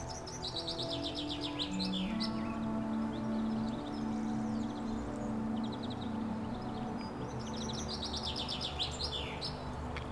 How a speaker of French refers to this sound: Dans ces pinèdes abritées et très odorantes, les oiseaux s'égosillent.